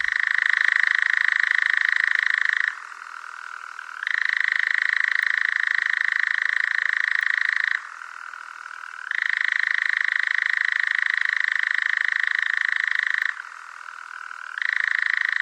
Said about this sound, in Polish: Oto i lelek, proszę bardzo. Tak, czyli tak jak słyszymy, jest to taki terkot monotonny i ciekawostką jest to, że jednorazowo ptak może tak śpiewać, przez 9 minut.